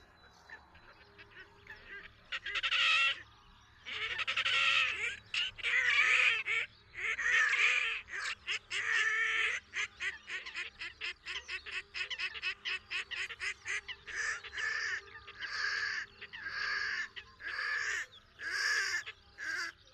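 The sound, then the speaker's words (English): Red-necked grebe calls at night: loud, harsh squealing and braying cries in rapid, stuttering series, rising into long wailing bursts and then breaking into choppy, repeated notes, continuing throughout with no talking. “The calls emitted by the red-necked grebe at night may make quite an impression on the chance observer.”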